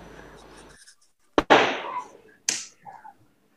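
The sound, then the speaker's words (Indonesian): Firecrackers burst with sharp, loud cracks: two in quick succession, each trailing a crackling hiss, then a third bang about a second later, following a faint background murmur. “Wah, ketemu gue main petasan nih.”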